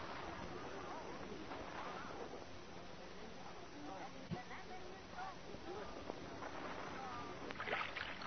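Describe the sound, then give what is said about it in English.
A rowboat is rowed fast against the undertow, with a continuous wash of sloshing and splashing and occasional creaks and knocks from the oars, while indistinct voices murmur faintly in the background. “don't roll the boat so fast. I can't keep up with you.”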